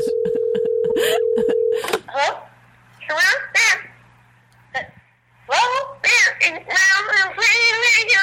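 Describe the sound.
A steady dial tone runs under a quick series of short, sharp keypad beeps for about two seconds as a number is dialed for a crank phone call played by Howard, followed by voices talking over a telephone line.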